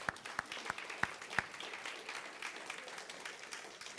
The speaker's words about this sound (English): And I hope you value now the service of the Sunday school teachers who stay back there every week. Yes, clap for them.